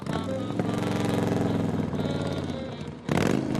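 Lyle's motorbike roars past, its harmonic whine shifting in pitch as it goes by, then a brief dip before another loud burst of engine noise.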